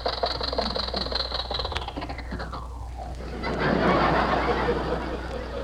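The engine of an old jalopy car driven by Rochester idles with a steady low rumble and rattling hum at a red light, a whining tone sliding downward as it is shut off, followed by a louder, noisy clatter.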